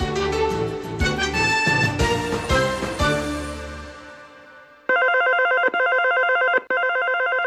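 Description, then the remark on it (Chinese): Several telephones ring over one another in a busy, overlapping clamor, then a single electronic phone ring takes over, repeating in loud bursts with brief gaps. No one speaks. “此起彼落的电话声，永无止境的临时交办，身心感到疲惫。”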